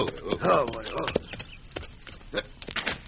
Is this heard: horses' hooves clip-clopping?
yes